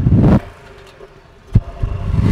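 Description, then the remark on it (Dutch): A V8 car engine revs with a deep, throaty roar, settles briefly into a quieter idle rumble, then barks sharply and climbs again in a rising snarl. No one speaks. “Ja, hij brult iets minder als de andere achtcilinder van vorige week, maar het blijft weer een heerlijke achtcilinder.”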